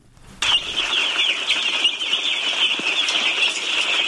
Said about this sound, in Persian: چوچه های یک روزه مرغ به تازگی از پاکستان آورده شده و قرار است برای پرورش در قریه توتمدره مرکز ولایت پروان داخل یک فارم شوند.